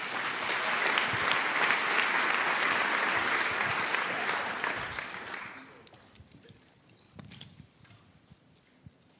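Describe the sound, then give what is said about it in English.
Dense, steady audience applause at a congress, congratulating an accepted marriage proposal, with many overlapping claps for about five seconds, then it thins out to a few scattered claps and faint murmurs. “So, that was actually your round of applause and congratulations from this audience, I guess, wherever you are.”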